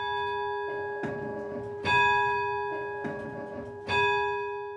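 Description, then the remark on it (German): Town hall tower bells ring out at exactly 12 noon in a steady, resonant peal, strikes falling roughly every second with long humming overtones lingering between them; moderately loud, with no voices present. “Nachdem die vier Turmbläser ihr Spiel beendet haben, übernehmen um Punkt 12 Uhr die Glocken des Rathausturms wieder das Musizieren.”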